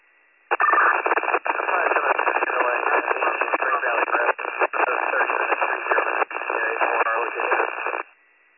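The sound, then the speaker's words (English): Radio static from a responding unit's radio during a Warren County emergency dispatch call: a harsh, narrow-band crackling hiss keyed on abruptly, running for about seven seconds with a few brief dropouts, then cutting off sharply. “Copy, you're responding, then your radio went static.”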